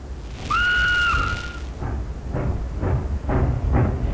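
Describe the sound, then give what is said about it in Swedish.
A train pulls away from a station, departing for Helsinki: a steady two-tone whistle sounds first, then rhythmic chuffing bursts begin, evenly spaced and fairly loud, over a constant low rumble. “Under ett trefaldigt hurra startar tåget mot Helsingfors.”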